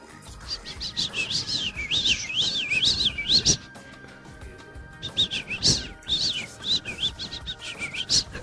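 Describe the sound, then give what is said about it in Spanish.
A person whistles a quick, chirpy imitation of a sparrow, a common bird, rapid rising-and-falling tweets in two bursts separated by a short pause, fairly loud, with no talking. “Eso es un pájaro común, un gorrión, imaginémoslo.”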